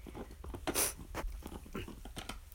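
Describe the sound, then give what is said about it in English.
A dog lying on its belly gnaws on a bone, with irregular crunching and scraping bursts and soft breaths between bites, no talking. “So I'm petting him while he's playing with his bone.”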